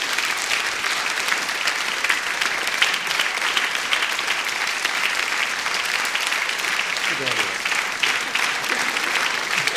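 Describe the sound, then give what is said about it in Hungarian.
A large audience at an evening concert applauds steadily, the dense clapping continuing without letup for the whole stretch, with a faint voice briefly audible beneath it near the end. “Megköszönve a sok-sok tapsot, szeretném kihívni most az esten közreműködőket.”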